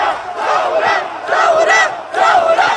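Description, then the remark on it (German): Thousands of protesters gathered in the streets near Martyrs' Square in the city centre shout and chant together in loud, surging waves, with three swelling bursts of massed voices rising and falling over about three seconds. “Gestern haben sich tagsüber tausende Menschen auf den Straßen nahe des Märtyrerplatzes in der Innenstadt versammelt und in der Nacht brannten dann Holzlatten, Werbetafeln und Müllhaufen in den Straßen.”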